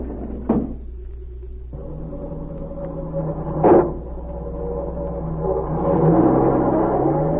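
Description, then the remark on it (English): Outside, a man gets into a car: a door thuds shut, an engine starts and idles with a steady hum, another door slams, then the motor revs up and the car pulls away. No one speaks. “He's getting into a car outside.”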